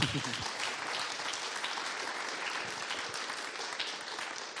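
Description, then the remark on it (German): An audience applauds two presenters steadily, a dense patter of many hands clapping at an even level for several seconds, fading slightly at the end. “Ich glaube, sie haben sich einen kleinen Applaus verdient.”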